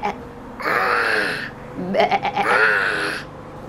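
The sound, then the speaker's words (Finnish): A child's voice imitates a sheep when asked what the sheep says, giving two wavering, drawn-out bleats in quick succession, the second starting with a stuttering quiver. Fairly loud, with no other talking. “Entäs tämä lammas? Mitä lammas sanoo?”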